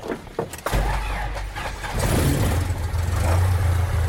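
A few clicks and rattles, then a small aircraft engine catches with a sudden loud roar and settles into a steady, throaty drone that grows slightly stronger.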